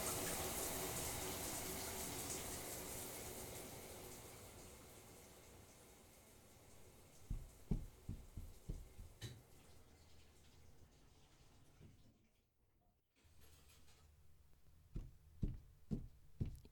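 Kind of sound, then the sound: household object, shower running water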